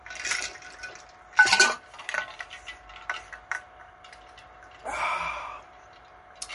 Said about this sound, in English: In fact, I'm going to take a drink of water right now. Sometimes I do that during church. You can hear the ice in my little aluminum container.